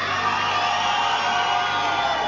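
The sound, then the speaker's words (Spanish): A crowd applauds and cheers steadily as the Centro Sur zone receives the torch at a ceremony, a dense wash of clapping with scattered whoops, sustained at even volume throughout with no speech over it. “Un aplauso. No se sintió casi la zona Centro Sur.”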